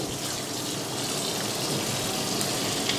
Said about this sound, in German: Da drüben brutzelt die nächste Pfanne für den Nockerl. Okay, ja. So dann, jetzt werden die Nockerl in die Pfanne einigen.